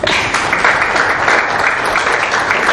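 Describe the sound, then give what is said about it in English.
A church audience clapping together for a child during a lesson on prayer, a steady, dense wash of applause that stays loud and even throughout without any break. “clap for him, please.”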